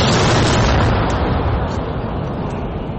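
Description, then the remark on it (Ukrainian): A single loud artillery cannon shot, fired by a brigade in a forested war zone, booms right at the start, followed by a long, heavy rumbling echo that slowly fades over the next few seconds. “Як гармата? Хорошо стріляє.”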